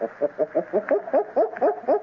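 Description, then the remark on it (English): A person imitates gorilla barking with a quick, steady run of about eight short, throaty hoots, each clipped and evenly spaced, rising slightly in pitch toward the end. “But we must do more than look like gorillas, amigos. We must sound like them. Their barking is like this.”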